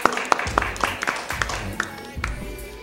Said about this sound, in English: Oh, clap. Let's hear the clap. Clap, clap, clap. See the clap sign.